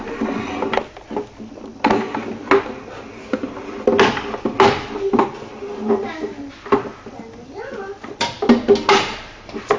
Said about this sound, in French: On installe les chaises.